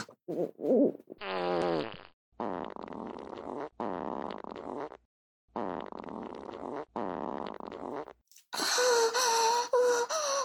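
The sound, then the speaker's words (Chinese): A string of long, loud, sputtering fart sounds, each lasting a second or more with short pauses between them, ending in a harsher, raspier blast. No one speaks. “好爽啊，我放屁放的真的好舒服啊，这他妈才叫放屁嘛”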